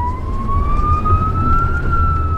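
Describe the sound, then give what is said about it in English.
An emergency vehicle siren on an EMS responder's car driving through downtown Austin wails loudly, its tone rising slowly and steadily, over a constant low rumble of engine and road noise. “He's navigating his car through downtown Austin, sirens blaring.”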